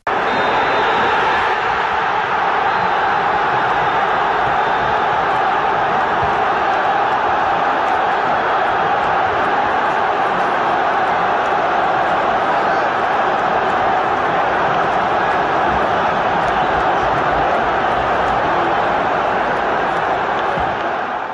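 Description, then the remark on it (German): A loud stadium crowd roars and cheers without a break at the end of a football match won by Hertha BSC, a dense wash of voices, with a faint high referee's whistle tone near the start as the final whistle sounds. “So, Mario hat auch den Schlusspfiff noch kurz hier für euch eingefangen.”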